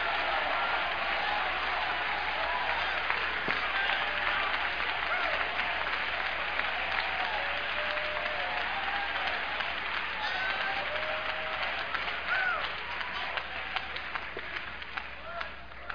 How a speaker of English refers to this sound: I thought I'd tell you, we got some hand clapping over here.